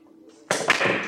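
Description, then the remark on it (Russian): A sharp crack of a billiard break in a game played for money, followed by a burst of clattering clicks as the balls scatter and knock together, after a brief quiet lead-in with a faint low hum. “Разбил удачно.”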